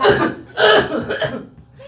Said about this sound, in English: So I just, you know, I end up like turning towards him and I start coughing really loud at the back of his head, right?